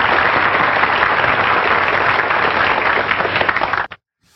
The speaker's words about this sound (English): I should give you another round of applause, too, just because.